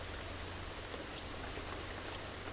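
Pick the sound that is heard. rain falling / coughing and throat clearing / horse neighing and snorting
rain falling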